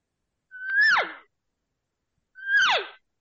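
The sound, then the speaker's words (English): A voice imitates a cow's moo twice using a diaphragm call, each call a steady tone that swells and then slides sharply downward in pitch, separated by a short silence. “That's a cow sound.”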